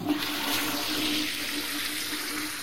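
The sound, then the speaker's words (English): A toilet flushes with a steady, rushing gush of water that holds constant for a few seconds, fairly loud, with no voices over it. “Well, pupils in Coty Plaza had a really interesting visit from Welsh Water, who came in to explain what happens to our waste and the journey it goes on when we pull the flush.”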